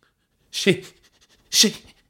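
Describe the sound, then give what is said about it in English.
A human voice imitates a dog's pitiful whimper, two short breathy whines separated by a brief pause. “Bish looked embarrassed as George spoke a pathetic whimper.”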